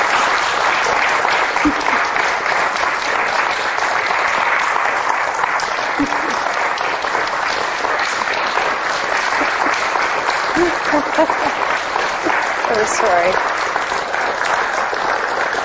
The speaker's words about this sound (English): Yeah. Isn't that a great story? You're applauding the epic. Isn't it fantastic?